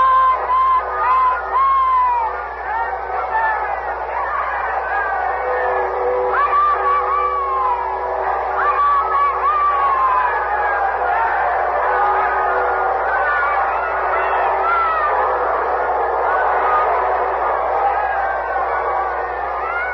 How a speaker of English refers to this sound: The people are crushing against the gates of the castle, shouting for a view of Queen Elizabeth.